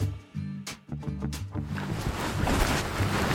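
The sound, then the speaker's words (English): A high-end 2006 boat's engine drones low and steady on the water at the Bronx, New York, on a beautiful day, while wind buffets the microphone, building into a broad rushing roar of air and water toward the end. “It's a beautiful day in New York. Let's get on a boat.”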